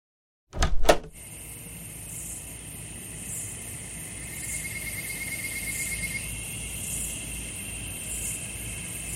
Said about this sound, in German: Und nun endlich öffnest du diese Tür ganz vorsichtig.